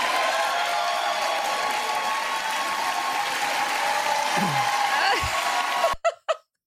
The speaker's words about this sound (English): For the listening audience, she stood and she clapped for herself.